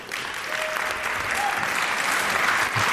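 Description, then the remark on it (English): An audience claps steadily for a few seconds, welcoming the speakers of the talk The Critical Making Movement to the stage, a dense, even wash of many hands with no pauses and no voices standing out above it. “And please give them a great round of applause and welcome to the stage.”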